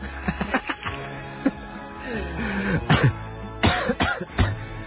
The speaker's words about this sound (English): Excuse me. That's not a cold cough. That's a, not being able to contain my combo. Any longer cough. Combo cough.